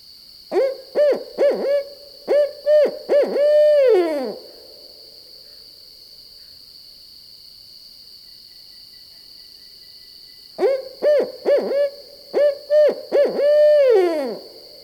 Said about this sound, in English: We've been hearing a lot of evening and nighttime calls this fall, and it's thought that perhaps owls increase their vocalizations in the fall as they stop spending time and energy caring for their young.